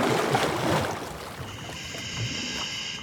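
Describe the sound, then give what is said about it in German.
A loud burst of water splashing and churning as a diver in a short wetsuit with scuba gear enters the water, fading after a second or so into a steadier watery rush with a faint, even hum beneath it. No one speaks. “Los geht's, zurück ins Wasser.”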